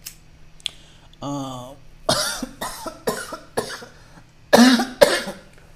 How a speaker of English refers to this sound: Yeah, cough it up. That's what happens when you smoke weed.